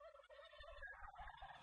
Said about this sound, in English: Have you guys, by any chance, seen a turkey up there? One of my turkeys got loose.